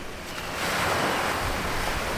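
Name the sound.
waves on a beach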